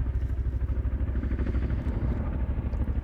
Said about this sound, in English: So you're hearing another Chinook helicopter now flying over, once again, the Shelton airfield. And paratroopers are about to jump out of this helicopter.